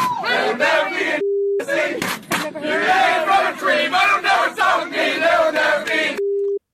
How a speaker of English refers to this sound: That bleeping, of course, N-word there.